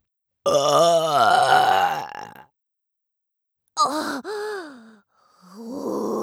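A long, loud burp with a rumbling, croaky tone, followed after a short pause by two briefer belches in quick succession.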